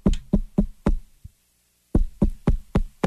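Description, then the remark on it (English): Light knocks on a bedroom door, a mother knocking to wake her child, a quick run of four raps and a softer tap, then a pause before five more evenly spaced knocks, with no talking. “And there would be this, like, small rap on my door.”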